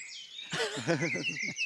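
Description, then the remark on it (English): Dawn chorus birdsong at 4:28 a.m. in northeast Scotland, with thin, high whistled phrases overlapping, joined midway by a louder, lower warbling call; a short, busy stretch of singing with no talking. “Well, that's a really terrific sound. So you've got the first birds, it looks like,”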